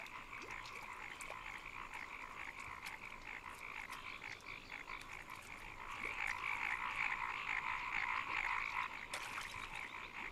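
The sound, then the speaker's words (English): A dense chorus of frogs croaking continuously in a ploughed paddy field, many overlapping calls forming a steady pulsing drone that swells louder partway through, with no voices. “This may look like a slaughter, but as each heron can swallow only one frog at a time, the vast majority will escape to croak another day.”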